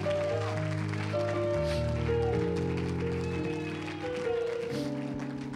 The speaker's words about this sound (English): And if you're going to preach with me, give God a hand clap of praise before you're seated.